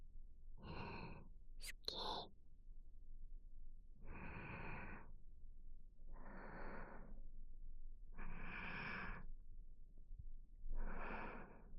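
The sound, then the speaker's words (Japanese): Close, soft breathing with about six airy, hissing inhales and exhales at a slow, steady pace, a brief click near the start, and no talking. “息遣いが届いちゃうこの距離。”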